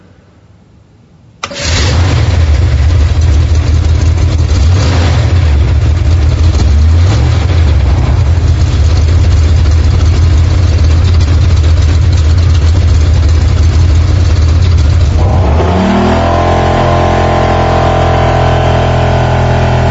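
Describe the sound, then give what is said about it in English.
A car engine cranks and roars to life, revving loudly for several seconds before dropping into a steady, rumbling idle. “start your engine.”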